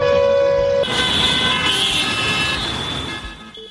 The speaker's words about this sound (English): why honking on the streets of the Bangladeshi capital could soon be a thing of the past